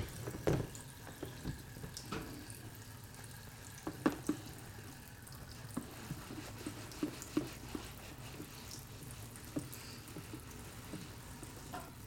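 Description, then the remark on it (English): Tap water runs steadily into a sink, with scattered clinks and knocks as something is handled and rinsed under the flow. No one speaks. “Hang on, this has to get washed as well.”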